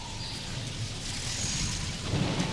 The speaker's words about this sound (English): With the rain on Dublin streets.